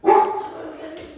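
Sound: dog barking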